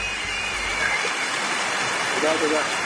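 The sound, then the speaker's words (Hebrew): Dense, steady applause from many hands heard on the radio station Radio Kol Chai, a continuous crackling wash that holds an even loudness throughout, with a faint voice briefly surfacing underneath near the end. “איזה רעש הזה? איפה הרעש הזה צץ לנו פתאום? איזה מחיות כפיים.”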